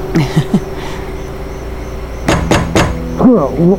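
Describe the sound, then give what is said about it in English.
Three sharp, forceful knocks as Wes Hendricks raps his knuckles on Jim Ed's door to wake him, in quick succession and loud, with brief bits of a voice just before and after. “Wes Hendricks's knuckles rapped fiercely against Jim Ed's door.”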